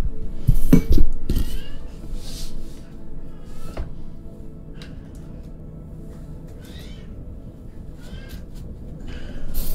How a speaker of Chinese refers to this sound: 这我家猫的声音有点太难听了。